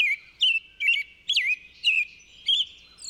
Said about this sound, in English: The robin has that whole sentence to say, cheerily, cheer up, cheer up, cheerily, cheer up.